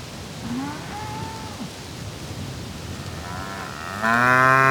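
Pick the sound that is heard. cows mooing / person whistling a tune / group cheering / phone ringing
cows mooing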